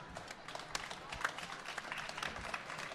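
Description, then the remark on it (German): A smattering of audience applause after the first part of a live reading, a steady wash of many quick claps with scattered sharper hand smacks, fairly quiet and continuing evenly for a few seconds. “Gerne Applaus jetzt an dieser Stelle.”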